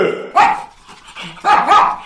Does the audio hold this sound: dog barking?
yes